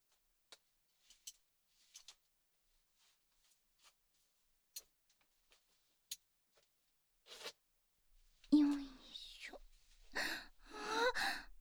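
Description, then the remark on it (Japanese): A few faint clicks and rustles, then the zipper of a seated person's trousers is pulled open in two short, raspy bursts. “ズボンのチャック失礼します。”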